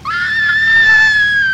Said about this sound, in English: I'm going to have to let someone else scream for you then.